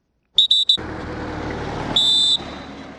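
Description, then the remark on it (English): Cameroon troops at Makari, on Cameroon's northern border with Nigeria, blow whistles to signal departure as about 3,000 Nigerians prepare to return to Kukawa in Borno State: three quick, shrill blasts, then a single longer one, piercing and high-pitched over a steady rumble like an idling engine or crowd. “Cameroon troops whistle to indicate it is time for departure as about 3,000 Nigerians prepare to return to the village of Kukawa in Borno State.”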